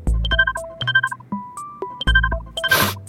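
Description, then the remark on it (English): An electronic phone ringtone plays a short, bright melodic pattern that repeats a few times, loud, ending with a brief burst of noise, like the phone being picked up. “The only thing standing between you and full day at Technomagicon is one simple phone call.”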